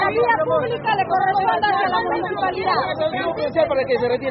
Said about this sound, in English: A phalanx of officers in riot gear stare on from across the street as the crowd shouts back.